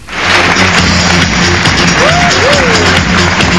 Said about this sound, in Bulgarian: Бурни овации младежите посрещнаха столичния кмет Борисов, след което прозвуча и химна на Република България, както и този на ГЕРБ.